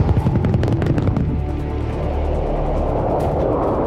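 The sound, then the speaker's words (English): An AC-130 gunship aircraft fires: rapid bursts of heavy gunfire crack out in quick succession over a deep, continuous rumble, then give way to a dense, booming roar of sustained cannon fire that stays loud throughout. “And that's got a lethal cannon on it. You know, it's a creepy plane. If you're on the ground, you don't want to be there if it's shooting at you.”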